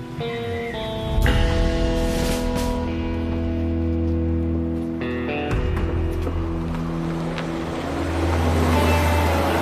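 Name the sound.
car driving away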